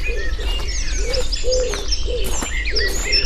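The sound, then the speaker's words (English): A dawn chorus in an Irish woodland in late spring: blackbirds, robins and wood pigeons sing and call at once, with high trilling phrases overhead and a soft, repeated low cooing from wood pigeons, all continuous. “For me, there's nothing that quite compares with the sound of an Irish woodland in late spring.”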